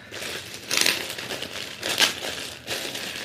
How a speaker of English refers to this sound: A rustle of paper, letter paper.